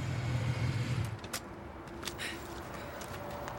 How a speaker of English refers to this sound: A guy in leathers drives up on his motorbike, takes off his helmet